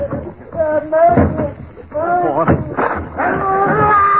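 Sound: door being broken down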